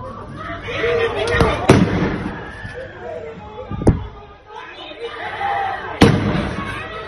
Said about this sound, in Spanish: Tiros al aire y tensión en Almagro por un tiroteo ocurrido en la calle Salvador Allende entre dos familias.